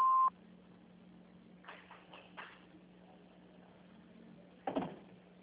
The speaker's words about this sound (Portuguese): No momento, não podemos atender. Por favor, deixe seu nome e número de telefone após o beep e possamos retornar a sua chamada.